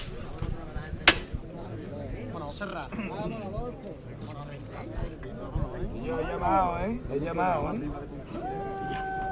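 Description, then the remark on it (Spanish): A single sharp, loud knock from the capataz's knocker on a procession float, struck by a young man on Palm Sunday in Triana, Seville, rings out near the start, followed by men's voices talking and calling over a busy crowd. “van a escuchar a su voz ronca de este joven que lleva muchísimos años aprendiendo de su padre y que va a tocar el martillo.”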